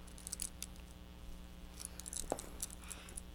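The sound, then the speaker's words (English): Keys clink and jingle on a key ring in a quiet scatter of short, bright metallic taps, a few louder clusters among softer rattles over a low background hum. “How'd you get the key off the key ring?”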